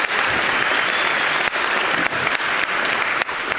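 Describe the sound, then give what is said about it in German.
A crowd applauds the performing artists loudly and steadily, a dense wash of many hands clapping at once with no letup, and no voices come through over it. “Einmal dafür einen riesen Applaus für die Künstlerinnen und Künstler.”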